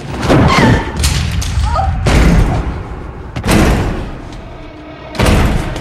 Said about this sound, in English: The door above is being forced.